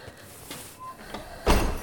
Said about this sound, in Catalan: De nit, l'Esteve obre la portella de Palau per donar pas a la Regina.